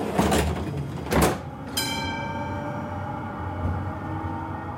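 A Munich tram's doors slide shut with a couple of hissing, clunking bursts, then a steady electric motor whine with rising tonal hums as the tram starts to move, heard from inside.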